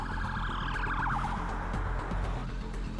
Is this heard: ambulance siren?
yes